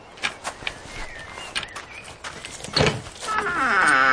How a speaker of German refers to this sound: Wow, die Tür knarrt aber ganz schön laut.